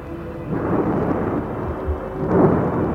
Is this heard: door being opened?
no